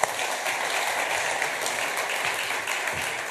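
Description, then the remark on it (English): An audience gives a group of people a round of applause, a dense wash of many hands clapping at an even, fairly loud level from start to finish, with no voices standing out. “And I think these things here, guys, if you want to give these guys a round of applause, thank you.”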